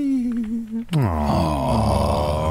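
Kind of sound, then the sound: human body sound, snoring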